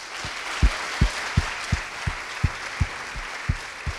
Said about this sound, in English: So please, this being said, please join me and welcome to give a big round of applause to welcome David and the Harvard team here at Yale.